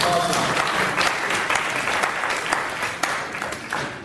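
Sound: audience cheering and applauding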